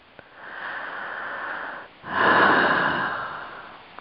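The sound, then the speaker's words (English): A slow, deep inhale followed by a longer, louder exhale, airy, with a brief pause between the two breaths and no talking. “Deeply breathing in, deeply breathing out.”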